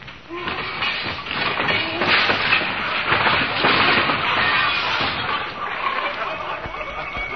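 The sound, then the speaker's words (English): An overstuffed closet's contents crash out in a long, loud cascade of clattering, banging objects, with many overlapping impacts tumbling on for several seconds before the rattling trails off. “Didn't I ever straighten out that closet?”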